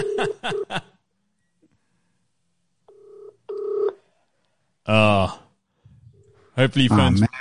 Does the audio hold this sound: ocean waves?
no